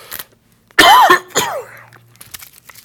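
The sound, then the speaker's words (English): A loud cough followed by a rougher second burst that trails into throat clearing, with quiet breathy rustling before and after and no talking. The person has a scratchy throat irritated by nose drainage. “I've been having a scratchy throat at times. Got a lot of nose drainage. I think that's why it's irritating my throat.”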